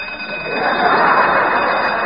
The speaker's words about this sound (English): Turn off that alarm clock!